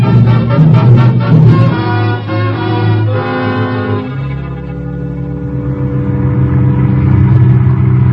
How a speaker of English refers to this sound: We get into the car and drive here to the edge of the city.